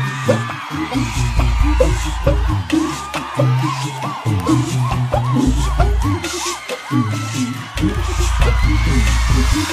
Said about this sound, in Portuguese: Agora grita. Bloco Os Pantaneiros, Carnaval 2019. Olímpia, São Paulo.